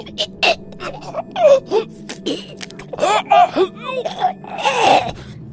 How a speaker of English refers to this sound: As he clutched at his neck and made the most horrible gasping sounds, I jumped out of my seat and crouched over him.